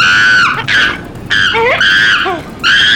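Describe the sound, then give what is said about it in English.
A chimpanzee on a plane in the film Chimps on a Plane shrieks in loud, high-pitched bursts, about four piercing screams with some sliding, falling squeals between them, and no talking over it. “If this chimp doesn't settle down, we'll end up in the trees.”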